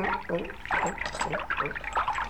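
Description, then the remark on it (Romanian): Water sloshes and gurgles around a wooden raft as it starts to move along through very deep water, with creaky, wavering tones rising and falling over a steady paddling rhythm. “Pluta începe să se deplaseze.”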